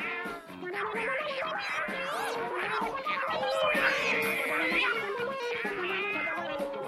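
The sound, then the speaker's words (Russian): Several cats yowl and screech at once in a loud, chaotic brawl, their wavering cries overlapping continuously for about seven seconds. “Котов было раз в 10 больше. Но ведь в рядах псов теперь сражался храбрый гасконец.”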